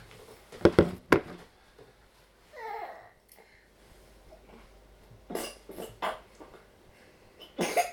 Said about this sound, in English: There's a cough, cough.